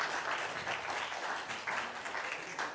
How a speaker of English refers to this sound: Excellent. Let's give our contestants a round of applause.